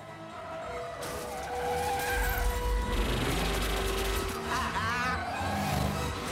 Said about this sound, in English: powers his vehicle round corner after corner, pursued by the sedans and Two-Face in the truck